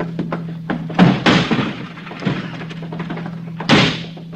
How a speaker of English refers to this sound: Locked. I don't have a key. All right, I'll kick it in.